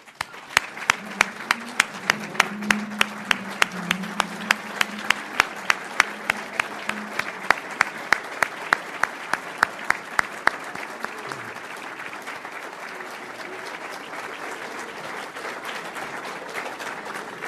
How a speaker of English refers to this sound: I ask that we all stand and applaud these great Chicagoans who are doing this work every day and doing it selflessly and for no other reason than to help us achieve our greatness. Thank you.